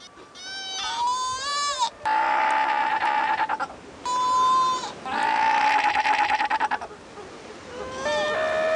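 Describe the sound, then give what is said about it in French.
Loud sea lion calls, a mother and her pup reuniting and trading long, wavering bleat-like cries back and forth, one voice higher and thinner, the other lower and raspier, with no talking. “par exemple dans ces cris qui, contrairement à ce que l'on pourrait croire, ne sont pas des cris de torture, mais de retrouvailles entre une maman et son petit.”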